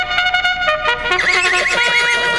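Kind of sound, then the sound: animal, horse neighing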